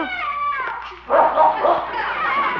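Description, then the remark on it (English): A dog that has found a neighbor's cat behind a garage lets out a high, drawn-out whine, then breaks into a quick run of loud, yelping barks that keep going to the end. “I'll say he has a neighbor's cat, some bloodhound.”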